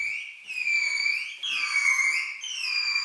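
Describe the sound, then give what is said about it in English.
A bottlenose dolphin, its head in a floating plastic helmet-like device during an experiment, gives three back-to-back high, sustained whistles, its normal whistling call made at a trainer's request for a fish reward, each gently bending up and down in pitch with a bright, harmonic-rich tone. No one speaks over them. “In the experiment, the dolphin swims into this funny little floating plastic helmet-looking thing that's positioned over its head, and then the trainer asks it to make its normal whistling call for 2 minutes for a fishy reward.”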